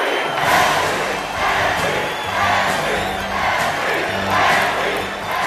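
A large crowd in the stands at a baseball game claps and chants in a steady, rhythmic wave, the massed voices swelling and falling every couple of seconds with a broad roar of cheering underneath.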